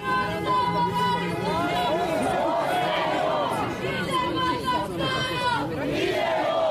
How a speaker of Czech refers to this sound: Nakon privođenja Dragičevića na Trgu Krajine okupila se manja grupa građana kako bi Davoru Dragičeviću, kako su uzvikivali, pružili podršku